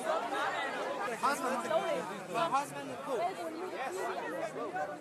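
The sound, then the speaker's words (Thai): A dense crowd of migrants chatters continuously, many overlapping voices forming a steady, lively babble with no single speaker standing out, as they wait for a train to Vienna, Austria. “นั่นเป็นเสียงผู้อพยพที่กำลังรอรถไฟเที่ยวที่จะเดินทางไปที่กรุงเวียนนาประเทศออสเตรียนะครับ”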